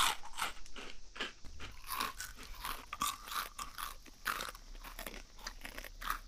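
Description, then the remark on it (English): Dry Wolfpack Kibble dog kibble being crunched and chewed, a steady run of crisp, crackly bites repeating every fraction of a second for several seconds, with no voices. “Wolfpack Kibble, the perfect meal for your best friend.”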